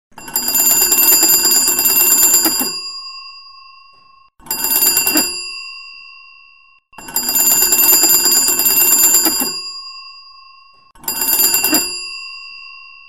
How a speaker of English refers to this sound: If you'll notice the list on the wall, you will see that each family has to listen for their particular combination of short and or long rings to know when the call is for them.